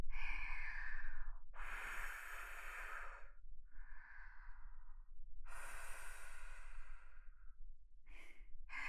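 Several soft, airy breaths blown close to the microphone, five breathy bursts with short pauses between them, some long and drawn out, the last one quick. No talking. In an erotic roleplay, the breath is blown onto the listener's penis to cool it.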